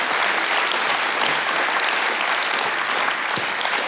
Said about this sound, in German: das ist dein Applaus, dass du das so ehrlich erzählt hast.